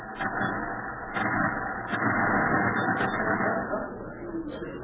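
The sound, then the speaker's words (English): Ralph's old car, a rattly collection of cans, rumbles and chugs steadily, with a few short, high metallic clinks over the drone, then eases slightly at the end as it stops out front. “Was that a car stopping out front?”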